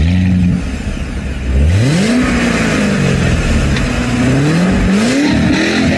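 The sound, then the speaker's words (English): A new Corvette C8 sports car engine revs loudly, its pitch climbing and dropping several times in quick surges over a steady rumble, with no voices. “the new Vette, I think it's a C8 model, I'm not 100% sure what they call it, is probably one of the most advanced cars”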